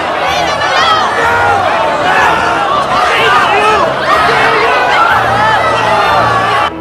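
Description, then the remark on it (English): A crowd waiting outside a Vienna theatre surges inside past a doorman as Eisenheim the Illusionist is arrested: a loud, dense roar and clamour, many overlapping voices shouting and chattering in an agitated surge with scattered whoops, steady for several seconds. “A crowd waiting outside the theatre surge inside, brushing away a doorman.”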